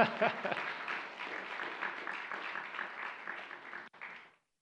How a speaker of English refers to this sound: Oh, you didn't have to clap for that.